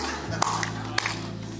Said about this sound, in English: You know how I know you don't believe this? Because people are clapping like this.